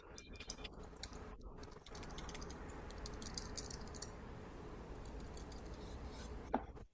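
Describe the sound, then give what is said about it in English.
Quick, irregular clicks of typing on a computer keyboard, fairly soft and steady throughout, with a brief louder tap near the end and no voices. “My keyboard is something else today.”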